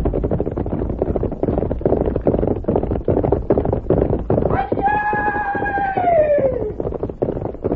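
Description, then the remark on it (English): Horse hooves gallop in a fast, steady pounding rhythm, loud, while a horse lets out a long whinny partway through that slides down in pitch. “You get on horse.”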